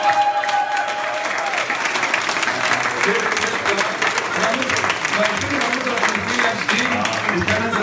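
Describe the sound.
An audience applauds steadily, a dense, even wash of many hands clapping that holds at a fairly loud level for the whole stretch, with faint crowd voices mixed in.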